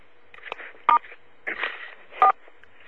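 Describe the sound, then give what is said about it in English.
Two short dual-pitched phone keypad beeps from star and 4 being pressed, about a second apart, stand out clearly over a faint, hissy line with some muffled background noise. “Can you hit star 4 on your phone there?”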